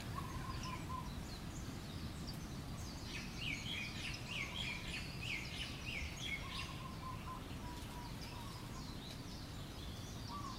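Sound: birds singing in trees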